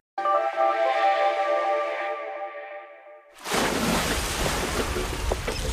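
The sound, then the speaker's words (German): A steady, horn-like tone holds for about three seconds, then gives way to loud rushing ocean surf that washes on continuously to the end, with no voices. “Meeresrauschen, Sonnenstrahlen im Gesicht und Erholung pur.”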